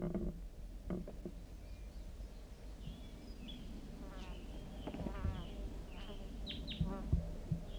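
A wild male bird gives a flight song overhead, near a lone pitch pine by a net site: a varied song of quick chirps and trilling, warbling phrases at mid to high pitch. The song runs fairly quietly over a steady low rumbling background, with no voices.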